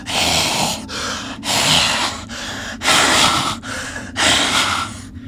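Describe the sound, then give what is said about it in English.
A voice imitates raspy, labored breathing heard just outside the door of a stump: four or five harsh, hissing breaths in a steady in-and-out rhythm, each lasting about a second, with no talking. “you hear just outside the door of the stump, you hear raspy breathing.”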